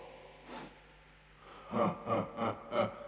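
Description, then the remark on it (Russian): Breathy inhalations of an intruding thief: one soft breath, a pause, then four heavier, rhythmic breaths in quick succession, like someone panting or sniffing. No talking. “Я тебя чую, я слышу твое дыхание.”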